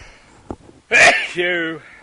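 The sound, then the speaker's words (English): A single loud sneeze: a quick breathy intake, then a sharp explosive burst that trails into a short voiced tail before stopping. “Sneeze alert.”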